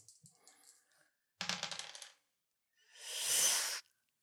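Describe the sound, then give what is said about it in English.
Dice rolled during a tabletop role-playing game clatter across a hard surface in a quick burst of rattling clicks, followed by a softer, sustained rolling swish, landing on a 5, with no talking. “I rolled a 5 on the dice.”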